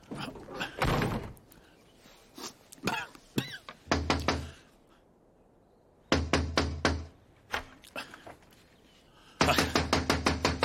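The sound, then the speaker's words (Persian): Loud, insistent knocking on the door of a home in rapid bursts of sharp raps, pausing briefly between volleys, with a final fast flurry of hits, by someone wanting to be let in; faint voice traces in the background. “در باز کن، میدونم خونه ای، میدونم هستی، ماشین ده اینجاست.”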